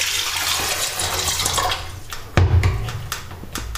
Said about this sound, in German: Das tue ich jetzt auch, indem ich einfach, indem ich einfach jetzt den Wasserkocher, hier ist er, befülle. Ich befülle jetzt den Wasserkocher und dann schauen wir mal weiter.